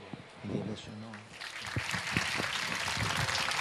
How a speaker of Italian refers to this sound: Applaudite con cognizione di causa, eh? Ve lo richiederemo dopo.